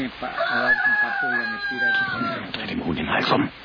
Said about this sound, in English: I killed that damn chicken. Yeah, it is a little loud, isn't it?